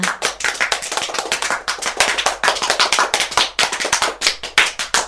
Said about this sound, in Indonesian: Nah, tepuk tangan untuk semua.